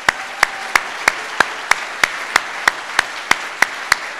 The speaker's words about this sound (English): I want to give a round of applause for the AA in Puerto Vallarta.